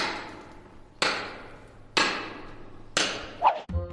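A pick hacks at rock salt nearly as hard as stone in four sharp, evenly spaced blows about a second apart, each ringing briefly, fairly loud, ending in a short scraping clatter.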